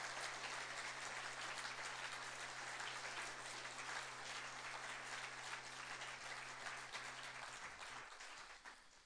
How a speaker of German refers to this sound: Lasst uns doch mal einen Applaus geben an alle, die hier dienen.